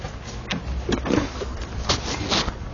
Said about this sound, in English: My apologies for all the shuffling noises as we get our mics hooked up.